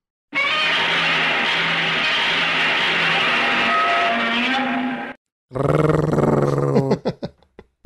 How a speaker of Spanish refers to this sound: Estaba buscando sonidos de Godzilla y hay un video donde hacen un concurso de unos niños.